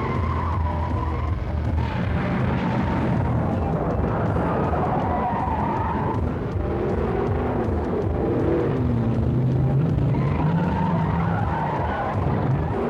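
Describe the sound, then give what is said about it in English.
A car chase from the 90-minute premiere of the TV special Grand Slam roars along with engines revving loudly and tires squealing in long, wavering skids, the screeching rising and falling continuously throughout, intense with no talking. “The 90-minute special premiere of Grand Slam has Rodriguez and Schneider getting into fistfights and gun battles and car chases, all to track down a drug dealer and return a baby to a beautiful widow.”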